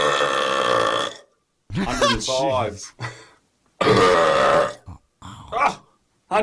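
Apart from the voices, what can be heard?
very loud burp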